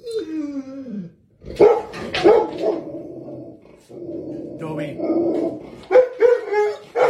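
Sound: dog barking at passerby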